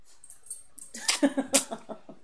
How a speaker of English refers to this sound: you can hear the gentle, soothing sneeze of Spencer the dog